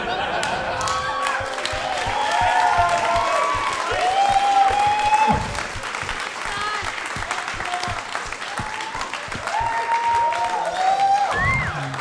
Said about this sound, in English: That is the least deserved applause break I have ever gotten.